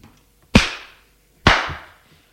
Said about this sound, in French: Et elle la gifle.